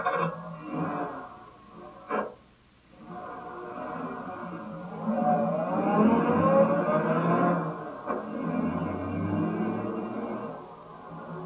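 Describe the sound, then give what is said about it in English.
A car engine hums and revs as the car drives around along a road, a steady motor drone whose pitch rises and falls, with a brief clunk early on and no voices. “Get in the car and we'll drive around a bit.”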